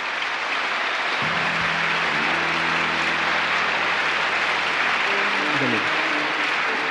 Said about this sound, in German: Kurzum die Kohlerschreiers. Kohlerschreiers, wir grüßen Sie herzlich mit einem Beifall und danken für Ihr Kommen.